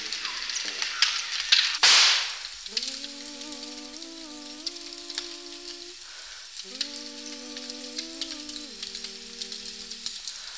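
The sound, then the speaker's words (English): A fire crackles and sizzles steadily in the evening, with a sharp hissing burst near the start. Twice, a low, steady, wavering tone rises over the crackle, then fades. “Sometimes, it's in the evening like this, and you're surrounded by the flames. Pretty much all you can see.”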